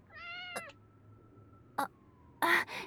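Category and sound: animal, kitten meowing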